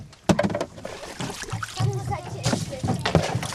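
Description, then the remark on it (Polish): Water sloshes and splashes inside a small sailboat's hull in repeated uneven surges, fairly loud, with indistinct voices murmuring underneath, as water is being taken out of the boat. “Bierzemy tutaj wodę, trzeba sobie wodę powyciągać.”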